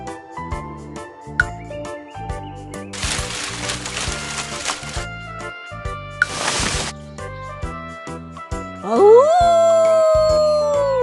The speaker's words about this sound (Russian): Воет волк почему? Потому что не спится ему.